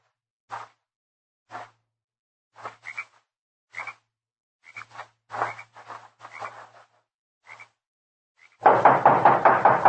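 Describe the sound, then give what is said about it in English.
Hollow knocks on the wooden door of a small adobe hut come in an uneven series of single and double raps, before a sudden loud, dense rattling burst fills the last second. No one speaks. “There he knocked, and then disappeared inside.”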